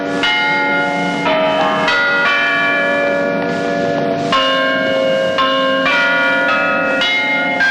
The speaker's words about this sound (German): Eine technische Leistung der Toningenieure war auch die Aufnahme vom handgespielten Glockenspiel der Potsdamer Garnisonkirche in 65 Metern Höhe. Klänge mitten im Krieg wie aus einer anderen Welt.